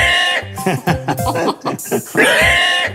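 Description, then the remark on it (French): A person who is a champion at pig-squeal imitation loudly imitates a pig squealing, with drawn-out nasal squeals at the start and end and choppy, grunting bursts in between. “Tu es champion d'une certaine catégorie de championnat. Un cri de cochon.”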